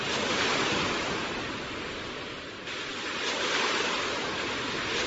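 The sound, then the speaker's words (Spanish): Continuous roar of rough sea surf, a dense wash of churning water that swells and eases slightly over a few seconds, fairly loud, with no voices. “Estas aguas agitadas obligan a la búsqueda de respuestas entre vecinos e instituciones estatales.”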